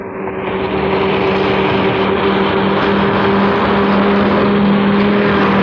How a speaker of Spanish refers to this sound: el vehículo cruza frente a ellos como un bólido a velocidad vertiginosa